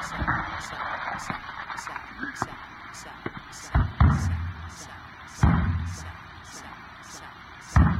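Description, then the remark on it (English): A few heavy thumps as someone bangs on a broken radio at uneven intervals, while a steady crackling hiss with regular high ticks runs underneath. “Bang it again. It's a miracle it lasted this long.”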